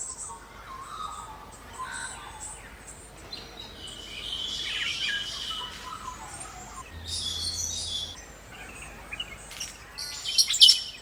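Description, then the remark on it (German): A chorus of birds sings and chirps on a morning on Kangaroo Island, Australia, over a steady low hum, with overlapping calls and trills at varying pitches, a few sharper high notes standing out near the end. “Aber neben all diesen Vögeln, die wir da eben gehört haben”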